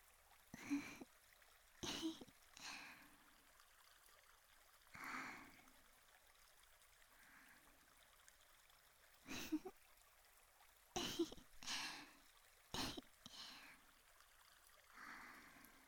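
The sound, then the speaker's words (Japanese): A soft, steady wash of a gently flowing river in summer runs throughout, broken by about eight short, loud bursts that sound like throat clearing or snorts. “緩やかな川の流れを見ながら、こうやってぼーっとしながら川涼みをする。”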